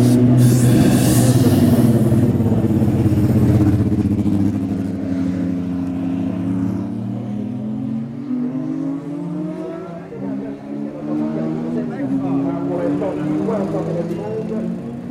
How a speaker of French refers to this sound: Pour l'instant, le fond des mise en route et départ d'une voiture. Après les grands prix du Brésil, du Portugal, de Saint-Marin et de Monaco.